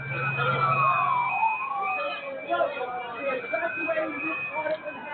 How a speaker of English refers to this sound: Everybody go straight, this ambulance is about 100 feet ahead.